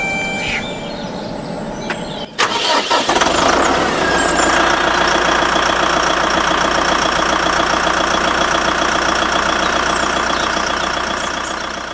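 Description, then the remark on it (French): A tractor engine cranks and catches after a couple of seconds of quieter background noise at a farm in Saint-Jean-la-Poterie on the morning of 22 February, before a tractor trip to a protest, then settles into a loud, steady idle with a rough, throbbing rumble that continues to the end. “Et c'est la première fois que vous faites le trajet en tracteur jusque pour une manif ou pour la ZAD?”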